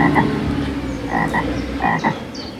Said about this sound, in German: Empfehlung für kleine Menschen ist durchaus zum Baden geeignet, sofern man sich nicht von den Fröschen gestört fühlt hier.